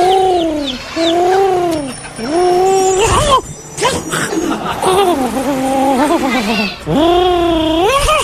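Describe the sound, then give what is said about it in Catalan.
A person mimics a pigeon's cooing with a series of rising, warbling vocal calls, loud, broken by a brief burst of noise partway through; the imitation is of Juancho, a pigeon from Plaza Catalunya. “És un colom de la... un colom, una paloma.”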